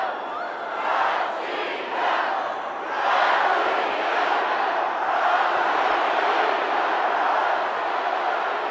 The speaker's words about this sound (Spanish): Coreando Rusia, Rusia y aplaudiendo, los asistentes a Gloria a los Defensores saludaron al presidente Vladimir Putin, quien subió al escenario y pronunció un emotivo discurso en el marco del concierto y meeting dedicados a los defensores de la patria